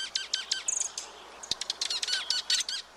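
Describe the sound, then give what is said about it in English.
Birds chirping in quick, overlapping bursts of high, bright tweets, several calls layered together in a busy chatter with a brief sharp click partway through; no one speaks. “So, next time you see a group of birds, pay close attention to the dynamics among them.”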